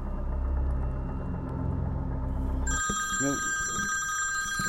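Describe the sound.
A low car-engine rumble fills the first few seconds, then a phone starts ringing with a bright, steady electronic ringtone, close and loud, while a brief voice sounds underneath.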